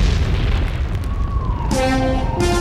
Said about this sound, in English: … here at the corner of 3rd and 4th, where an ATM explosion has taken the life of a woman described by eyewitnesses as a cranky old lady who got what was coming to her.